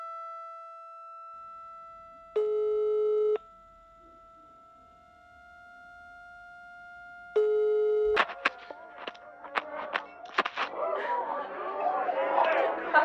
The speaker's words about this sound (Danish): Nu ringer jeg til dig og hører, hvor du bliver af.